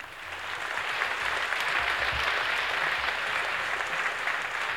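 Steady, dense clapping from a sizable crowd, sustained at an even loudness for the whole stretch, with no voices breaking through the applause.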